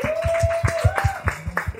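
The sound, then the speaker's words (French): An audience claps in a steady, quick rhythm, each clap sharp and evenly spaced, with a sustained high whistle-like tone and low thumps running beneath the applause, applauding the head of the Grand Tétra brand. “Un peu d'applaudissements”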